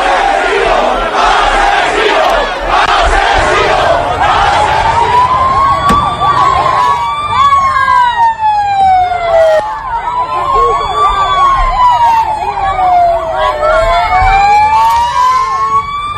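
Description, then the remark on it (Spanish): A loud, angry crowd in Paiporta shouts "Asesinos fuera" and jeers continuously at the King, Spanish Prime Minister Pedro Sánchez and Valencian president Carles Mazón. Mud and objects are thrown, and a sharp thud of a stick strikes the Prime Minister's car as his security team evacuates him. A wailing siren rises and falls through the second half. “Asesinos fuera, oíamos los golpes, les lanzaron barro, objetos, ese golpe de un palo incluso golpeando el coche del presidente del gobierno cuando su equipo de seguridad intentaba evacuarlo.”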